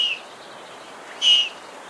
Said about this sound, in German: Und so hört sich das bei einem Babyluchs an.